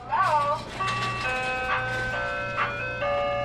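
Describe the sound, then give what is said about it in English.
A tinny, music-box jingle plays from an antique ice cream truck in downtown Chicago, a simple stepping melody of sustained electronic notes, clear, with a steady low engine hum underneath. “Ice cream truck driver Johnny Max has been playing this song out of his antique ice cream truck through downtown Chicago since the 1970s.”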